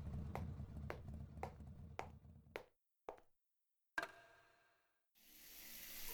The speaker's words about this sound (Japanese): まだ冷めやらぬ興奮をシャワーの水圧が奪っていく。暖かな心地よさだけを残して、脱力、すっと力が抜けていく。シャワーが当たるたびに女の体を濡らしていく。